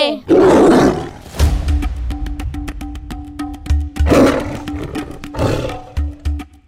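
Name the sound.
tiger roaring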